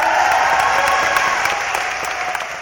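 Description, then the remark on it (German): A crowd of about 250 participants at a water tribunal cheers and applauds steadily after the jury rules that the La Parota hydroelectric dam project must be suspended. Dense clapping forms a continuous wash of sound with occasional sharper claps standing out, loud and sustained throughout. “Auch der Jubel der rund 250 Teilnehmer des Wassertribunals gab dem Beschluss der Juristen recht.”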